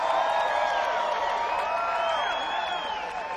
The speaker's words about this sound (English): Y'all please give this band a round of applause. They've been working so hard for you this evening.